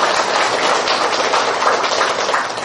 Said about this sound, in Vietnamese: Xin một tràng pháo tay chào đón tất cả.